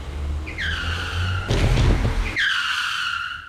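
car tires skidding

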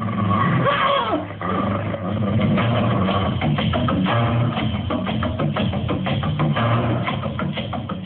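wolves growling

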